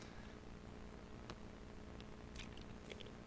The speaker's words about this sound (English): Let me take a sip here.